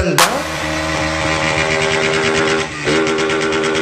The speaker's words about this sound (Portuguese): A molecada que fica de gandaia aqui com as motos fazendo rangan dan dan dan dan dan dan dan dan.